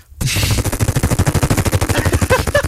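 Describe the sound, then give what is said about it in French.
A sound-effects artist imitates a helicopter taking off with his mouth: a rapid, steady chopping pulse of low thumps, loud and continuous, with a breathy whooshing layer over it and brief higher tones toward the end. “L'hélicoptère vient de partir.”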